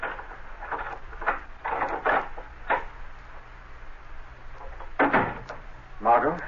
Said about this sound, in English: Now, shortly afterward, Margot Lane is unlocking the door to her apartment.